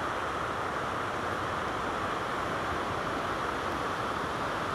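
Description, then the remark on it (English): A steady, loud roar of a river in full spate after recent heavy rain on an autumn day, broad, continuous and churning, with no pauses or voices. “As I look down to my right, the river is very much in full spate after some heavy rain recently, which is another reason why I think the Strid will be very impressive today, as the water channels through the narrowness of the rock”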